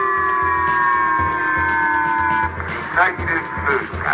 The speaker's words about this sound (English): And North Korea's launch of a missile over Japan's northern Hokkaido island set off sirens not heard in a long, long time. They're saying missile passing, missile passing.